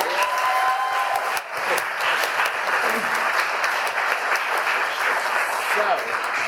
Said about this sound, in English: So, can we get another round of applause for these awesome performers?